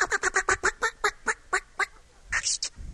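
A squirrel calling in response gives a rapid series of harsh, raspy barking calls, about a dozen in quick succession that gradually slow, then ends with a louder, rougher burst, with no talking.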